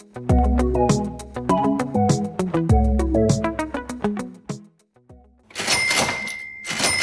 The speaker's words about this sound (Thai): เสียงเครื่องคิดเงินของร้าน Monash Cake ร้านกาแฟและเค้กชื่อดังบนถนน Auckland Street ที่เมืองเมลเบิร์นร้านที่เปิดมาเป็นเวลากว่า90ปีบนถนนที่คึกคักเสมอ